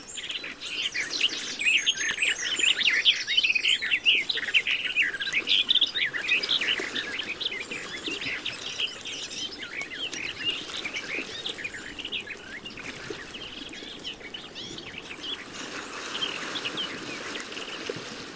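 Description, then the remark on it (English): A garden warbler's song pours out in a fast, rich, continuous warble, with other woodland birds faintly chirping in the background and a soft trickle of water underneath. “To find these wonderful songsters, the garden warblers, learn their songs and get yourself to some dense woodland with a rich forest floor along inland lake shores.”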